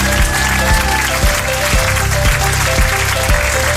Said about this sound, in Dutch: Oh, applaus is klaar. Het is ineens klaar ook, hè?